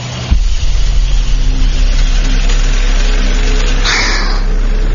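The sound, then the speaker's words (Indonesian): A car engine starts up and runs loud with a steady, labored low drone as the car climbs uphill with the accelerator held down, accelerating without much change in pitch; a brief harsh caw-like call cuts in near the end. “Padahal gue udah ngegas terus. Tapi mobil kerasanya berat banget deh.”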